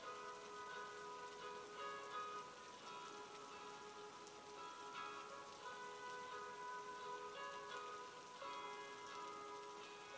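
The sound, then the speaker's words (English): Driving rain pours steadily for the whole stretch, a dense continuous hiss of drops pattering on a surface, with a faint droning hum underneath and no voices. “She chased the bus, but alas in vain, through howling wind and driving rain”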